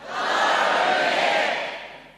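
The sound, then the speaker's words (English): A large group of about 100 people in a shed in Winton, Australia, shouts "Hi" together in unison, a loud, sustained collective yell that swells quickly and fades out after about two seconds. “Sounds like you've got a crowd there.”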